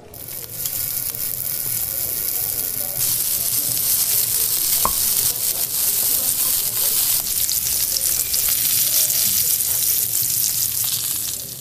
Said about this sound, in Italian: Poi tagliamo il guanciale. E a fiamma alta facciamolo cuocere in una padella antiaderente per qualche minuto, in modo da renderlo bello croccante.